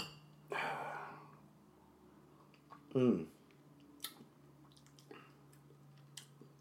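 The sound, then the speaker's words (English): A soft rustle, then a wet slurping sip of whiskey, a mix of Weller 12 and Weller 107, followed by a few faint clicks and small mouth noises. “And then you got some poor man Pappies right there, so... Cheers.”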